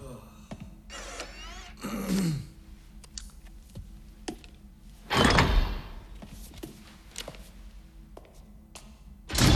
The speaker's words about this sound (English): Once the door is closed